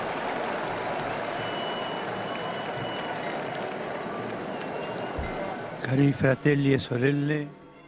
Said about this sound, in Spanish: donde vemos también muchos peregrinos que están pues allí, muchos colores de banderas también las vemos, y ya escuchamos esos aplausos de la Plaza de San Pedro.